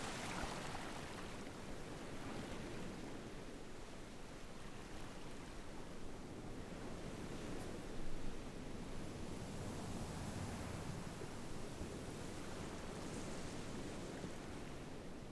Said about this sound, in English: Silence lets you hear the ocean. And the waves come and go as you breathe in and you breathe out.